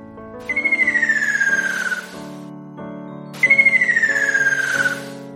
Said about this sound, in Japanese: 今までに聞いたことのない鳥の鳴き声が聞こえてきたのです。 健太は家に帰ってからお父さんに聞きました。 健太、それはきっと赤ショウビンだよ。